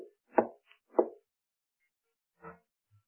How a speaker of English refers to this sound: He went to a door one day to visit, and he knocked.